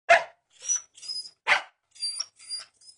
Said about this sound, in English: Shh, Barney, stop barking.